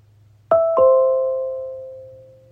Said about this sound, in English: That chime that you heard went off on all the different HomePods throughout my house.